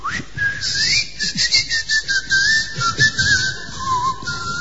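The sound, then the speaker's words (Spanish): A person whistles a long, wavering tune to unlock a door at home that has no lock, the pitch sliding up and down continuously for several seconds, with some faint rustling noise underneath. “O mi voz o con mi chiflido.”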